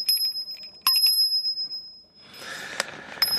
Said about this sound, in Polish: To może niech jeszcze nie zamek, tylko dzwonek taki maluteńki.